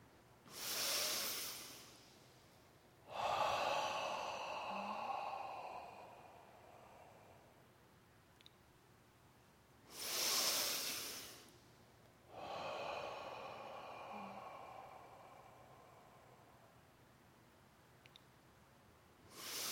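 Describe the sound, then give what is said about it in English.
Slow, audible breathing during a silent meditation, with eyes level: two full cycles of a sharp inhale followed by a longer, softer exhale. Each breath is separated by quiet pauses, with no talking. “through the four centers, just silent but breathing, and your eyes just out nice and level, and letting this quiet the body and bring everything back to center.”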